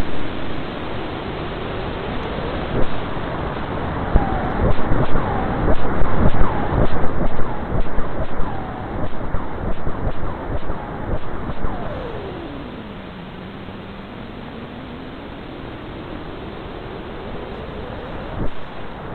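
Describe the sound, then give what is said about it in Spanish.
Sonified X-ray emission from the black hole Old Faithful, translated to sound by MIT scientists: two emission cycles, an hour sped up into seconds, a dense, noisy rush with swelling bursts, then a smooth tone that glides down and slowly rises again. No one speaks over it. “Científicos del MIT han cogido la emisión en rayos X del Old Faithful y la han traducido a sonido.”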